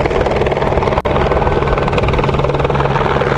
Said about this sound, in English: 3 teens were in a crumpled car, and in the scenario, LifeNet helicopter was called in and lands next to the crash site.